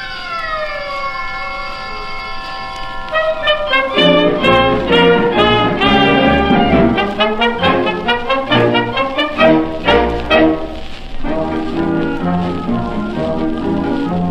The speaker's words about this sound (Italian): Allora, dalla voce di questi due giovani ragazzi, che dal 1949 in poi sarebbero diventati dei grandi divi, ascoltiamo la scanzonata e divertentissima melodia